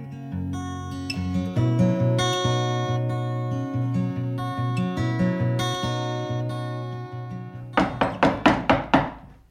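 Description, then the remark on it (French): Music with sustained tones plays, then about six quick, firm knocks on the door of the Maison de la Mémoire du Royan, a house museum in Rochechinard, rap out in a steady rhythm over its closing moments. “Eh bien, on vient de frapper à la porte de la Maison de la Mémoire du Royan.”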